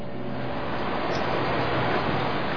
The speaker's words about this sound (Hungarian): Mi lehet ez? Ti is halljátok? Olyan, mintha víz folyna.